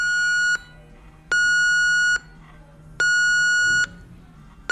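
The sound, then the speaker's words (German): An ECG monitor alarm beeps in long, steady pulses, each sounding for about a second with short pauses between, repeating evenly against a quiet hum, during a night shift on a women's cancer ward in a hospital in Lower Saxony, Germany. “Das EKG-Warngerät schlägt Alarm.”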